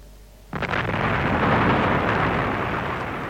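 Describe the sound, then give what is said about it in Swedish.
A plane explodes in a Tintin story with a sudden loud blast, then a dense, roaring rumble that holds steady for several seconds. There is no talking over it. “Planet exploderade!”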